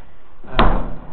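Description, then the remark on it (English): A door is pushed shut with a single solid thud, a brief swell of movement before the impact and a short low rumble fading after it. “Can you shut the door?”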